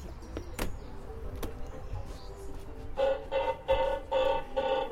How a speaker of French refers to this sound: Le jardin violet, c'est donc un jardin de cigales.